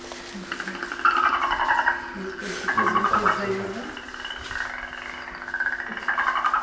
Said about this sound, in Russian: Дельфин – это лесной житель? Нет. Морской, молодцы.